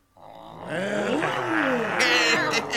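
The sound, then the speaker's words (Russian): A group of children roar together in imitation of lions and tigers, a loud sustained chorus of wavering, overlapping growls that rises into higher shrieky cries near the end. “А рычать, как львы и тигры, можете?”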